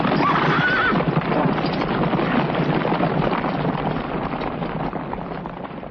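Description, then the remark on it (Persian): The tired horse of Suraqa ibn Malik walks slowly through the alleys of Mecca, whinnying near the start as steady hoofbeats clop along at an even walking pace with a faint breezy hiss behind them. “صدای پای اسب خسته سراغی مالک بود که آهسته قدم بر می داشت و نیز صدای پای سراغه که همچون اسبش خسته بود و شاید خسته تر از او.”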